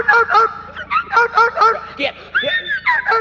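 A dog barks in a rapid series of about eight sharp, high-pitched yelps, loud, with only brief gaps between them, as it is being let loose.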